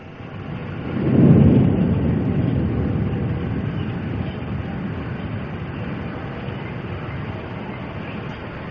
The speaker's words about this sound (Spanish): ¿Acelerada 10 veces? Exactamente. Se trata de un terremoto bajo el mar. Y fíjate que lo que se oye después, que parecen pájaros, son en realidad ballenas jorobadas. Recuerda que el sonido está acelerado 10 veces, que están asustadas por el terremoto.